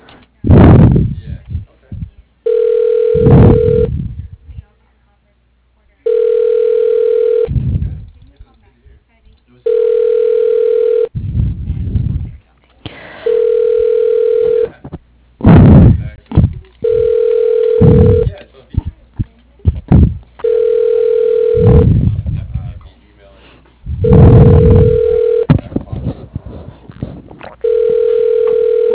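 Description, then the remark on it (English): A phone call to a rafting company rings out with a steady, evenly spaced ringback tone, repeating about eight times, with clattery clicks and bumps of dialing and handling in between. “a little quick to dial.”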